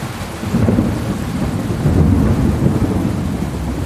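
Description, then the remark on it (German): A loud, deep thunderclap in a summer night storm booms and rolls on for several seconds as air expands around lightning, its low rumble swelling midway, with steady summer rain hissing underneath throughout. “Ein letzter gewaltiger Donner erschüttert die Nacht.”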